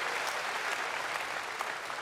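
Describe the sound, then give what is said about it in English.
A large crowd at a sumo tournament held during COVID applauds steadily, a dense, continuous patter of many hands clapping at an even level throughout, with no voices standing out. “It was like one of those tournaments because of COVID, nobody could like cheer a lot, but still people went as wild as they could in COVID times.”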